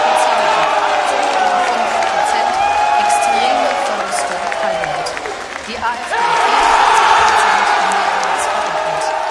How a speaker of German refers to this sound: Florian, das, was wir eben gehört haben, das war der Jubel der AfD bei der Wahlparty in der Landeshauptstadt, kurz nachdem die Ergebnisse bekannt gegeben worden waren.